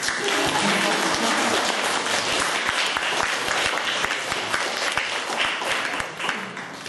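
An audience at a church talk on single life applauds to welcome the next speaker, a teacher. Steady applause fills the whole stretch, a dense wash of many hands clapping at an even loudness, with no voices standing out above it.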